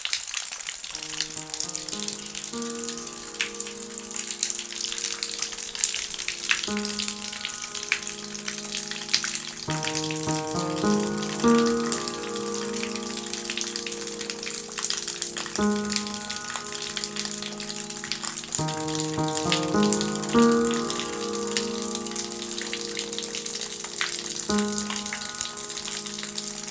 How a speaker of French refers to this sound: Des traces blanches, ocre, jaune, orangé, bercé par l'eau qui s'écoule comme des perles de pluie, quoi.